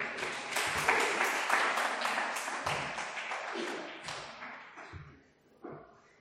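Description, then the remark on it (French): A crowd claps in a dense, steady burst for about four seconds, then the applause thins out and fades, with a few scattered claps near the end. “On peut les applaudir.”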